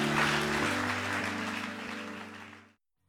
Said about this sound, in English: Can we applaud again each and every one that raised their hands? Congratulations.